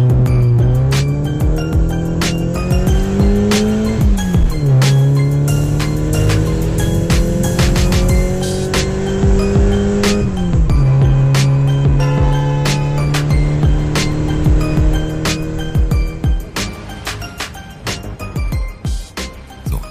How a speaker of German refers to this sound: Komm, wir steigen ins Auto. Wir fahren los.